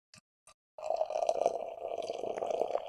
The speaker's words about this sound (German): Und ich schenke mal so ein bisschen ein.